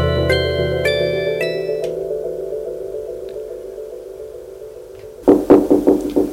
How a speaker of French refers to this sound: On frappe à la porte. C'est pour le plat de viande.